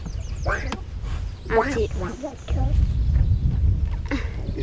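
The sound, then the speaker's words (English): A person imitates Donald Duck's voice, producing a few squawky, garbled quacking bursts, with a steady low rumble of background noise throughout. “very good at talking like Donald duck.”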